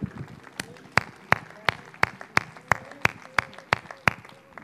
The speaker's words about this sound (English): Let's give the Lord a hand clap and praise tonight.